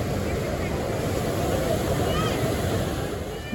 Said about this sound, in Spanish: Las voces de la multitud se calmaron por completo. Lo único que se podía escuchar eran las olas rompiendo en la playa.